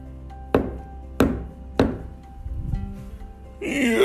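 Three solid, evenly spaced knocks on a tree trunk, loud with a brief woody ring, then a short lull before a voice starts up at the end.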